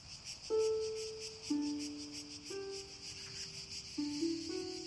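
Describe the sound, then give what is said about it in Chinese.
A steady, pulsing chorus of cicadas shrills continuously at moderate volume in a garden on a calm, bright summer night, layered over slow, sustained low musical tones that shift pitch every second or so. No one speaks. “他换好衣服来到花园，夏日的夜晚平静且明亮，蝉鸣歌唱是唯一的声响。”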